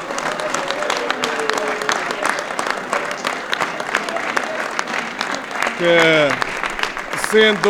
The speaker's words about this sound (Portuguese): quero aqui, porque era um amigo muito especial, lembrar do Gris Teixeira, que com certeza, e uma salva de palmas para o Gris.